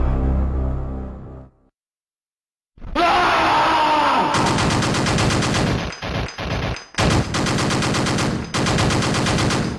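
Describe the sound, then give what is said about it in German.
Loud, rapid video game gunfire from a blond character firing his gun in sustained automatic bursts, with brief gaps between volleys, plus a groaning yell as he starts to scream. A low tonal fade precedes a short silence before the shooting starts. “dieser blonde Typ drauf war, der aus seiner Knarre schoss und dann irgendwann anfing zu schreien.”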